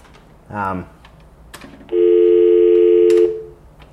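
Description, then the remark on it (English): Telephone handset tones from a phone on a bedside end table: a short warbling electronic chirp, then after a pause a loud, steady beep held for over a second, clear against a quiet background. “Then there's a phone.”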